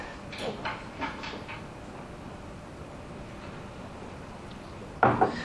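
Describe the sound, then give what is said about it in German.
A door opens with a few soft clicks and rattles at first, then a quiet pause over steady room noise, ending in a sharper, louder knock or latch sound. “Ich mache die Tür auf.”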